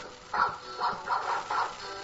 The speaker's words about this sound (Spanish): ¿Qué suena? El perro haciendo DJ.